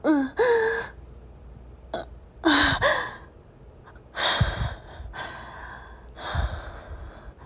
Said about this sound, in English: I hear you swear under your breath as I scream and gasp.